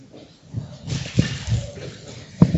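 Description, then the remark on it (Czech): Water is scooped from a bucket with a sieve and splashes and dribbles as it is moved into a small container, with soft sloshing throughout and two sharp knocks of a container partway through and near the end. “A můžu tě poprosit, abys mi pomocí toho sítka přendala vodu do té nádobky?”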